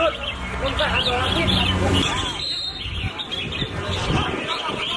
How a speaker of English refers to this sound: Oh, because I thought he said exactly what type of bird it is. Oops, I mean, sounds like parakeets to me. Yeah, it's like a red something or another.